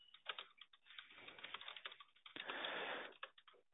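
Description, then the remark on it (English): Rapid, uneven clicking of keys on a computer keyboard as someone types up notes during a phone call, fairly quiet, with a brief denser burst of rustling clatter midway; no voices. “If you ever hear silence on my end of the phone, it's just me typing up the notes.”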